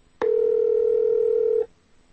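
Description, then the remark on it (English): A single steady electronic phone tone sounds for about a second and a half as a call is placed by tapping a phone number in a text message, starting with a slight click and cutting off cleanly, with no voices around it. “You can also tap on a phone number in a text message to instantly call that person.”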